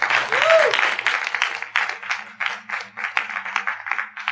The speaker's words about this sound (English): To God be the glory. Give him a hand clap of praise. Yeah.